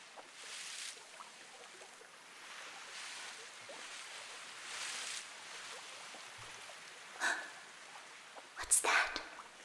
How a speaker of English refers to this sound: A small boat filled with people.